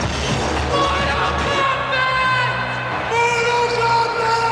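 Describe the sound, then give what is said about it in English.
A group of kids in a TV commercial yell the name of a video game together in the streets of New York, loud, their voices overlapping in drawn-out bellows over a busy, noisy street background. “the commercial, the TV commercial, that famous one of the kids yelling Mortal Kombat in the streets of New York”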